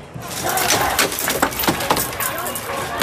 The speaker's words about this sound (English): This is the moment protesters smashed through the doors of a Columbia University building overnight, taking their demonstrations to a new level.